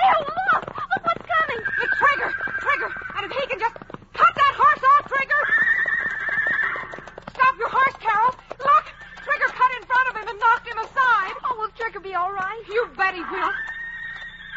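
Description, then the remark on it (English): A huge red stallion protecting his band of mares neighs and whinnies again and again, loud, over a steady patter of galloping hooves that runs through the whole stretch. “A stallion when he's protecting his band of mares.”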